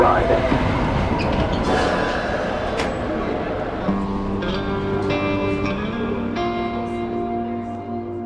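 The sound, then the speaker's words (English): Riding aboard a Metrolink light rail commuter train in St. Louis toward Illinois: a steady rumble of wheels on track with occasional clunks, and a sustained electric motor whine that settles into steady tones partway through. “To get to the Illinois clinic, it's a 10-minute walk, and then a Metrolink train, and then a bus.”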